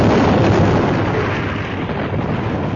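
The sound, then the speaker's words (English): A loud, sustained explosive roar with heavy low rumble as power packs blow up in a tremendous blast of fire, holding steady for a few seconds and crackling faintly before easing slightly. No one speaks. “With a tremendous blast of fire and thunder, the power packs blew up.”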